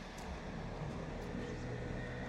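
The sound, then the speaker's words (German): A motorcycle and a car go by, heard as a steady, fairly loud engine-and-tire rumble with broad road noise and no clear rise or fall, and no one speaking. “Es fährt gerade ein Motorrad vorbei. Und ein Auto.”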